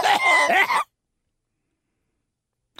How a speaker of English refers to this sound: So I can't get rid of this cough.